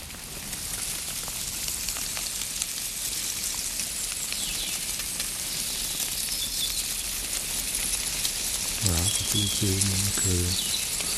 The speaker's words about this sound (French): Tout simplement le déplacement des fourmis sur les feuilles, qui s'entend vraiment très bien à l'oreille nue quand on est dans une forêt suffisamment silencieuse, c'est-à-dire qu'on n'a pas de bruit parasite, pas de torrent trop proche